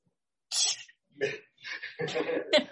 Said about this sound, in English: I still have a little bit of a cough, you know. I might cough during the sermon.